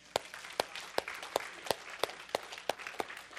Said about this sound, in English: How many of you believe I'm surrounded by deliverance? Then clap to the Lord.